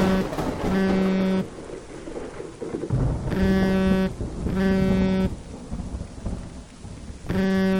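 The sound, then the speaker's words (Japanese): Steady, dense heavy rain hisses loudly throughout, while a buzzing electronic tone pulses on and off four times over the downpour. “あ、すごい雨だね。”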